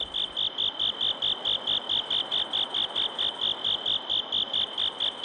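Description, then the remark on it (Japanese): Bell crickets (suzumushi), kept at the Iwakiri Citizen Center in Sendai, Japan, chirp in autumn in a steady, rapid series of bright, high-pitched pulses, clear, with a soft low rhythmic pulsing underneath and no voices. “コオロギの、鳴いてる音の回がありましたんで、ちょっと聞いてみましょう”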